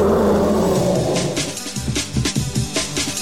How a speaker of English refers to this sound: The TIE Fighter was made with two main elements. The first being the sound of a car passing by a microphone on wet pavement. And then layered on top of that are these elephant growls, these horrible elephant growls.